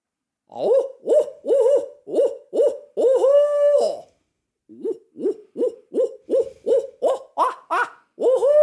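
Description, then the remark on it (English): A man's voice imitates an owl with a loud sequence of short rhythmic hoots and one drawn-out call, then after a brief pause, another quick run of hoots that rises in pitch. “I take a lot of pride in my owl hooting, and I use it all the time.”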